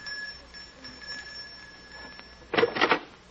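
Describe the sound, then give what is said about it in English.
A doorbell at an upstairs door rings once near the end, a brief, bright electric ring lasting about half a second, standing out against a faint steady whine. “It's this door here. Just ring the bell.”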